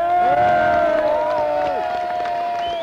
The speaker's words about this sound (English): And both the Yips and the members of the congregation, the older people who have come here, agree on that, and as you can hear, there's a grand round of applause.